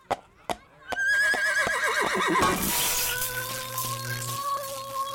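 A few sharp knocks, then a horse lets out a loud, drawn-out whinny with a shaky, quavering pitch that trails off over the next few seconds.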